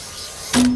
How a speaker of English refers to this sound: You see here, this is the machine that cuts the mirror. He buys these giant sheets of reflective glass, and he slices them into little pieces.